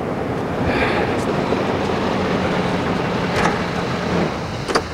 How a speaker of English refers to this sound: A car pulls up.